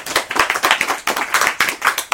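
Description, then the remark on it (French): An audience claps briskly, the many hands merging into a steady, even rhythm of sharp bright slaps that lasts a couple of seconds with no voices over it. “D'applaudir, hein, parce que c'est”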